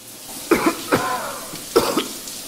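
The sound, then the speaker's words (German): A person coughs several times in two short bursts of two or three harsh, throaty coughs each, separated by a brief pause, with no talking. “Jetzt steht hier im Skript was von Hust, Cyberpunk Hust.”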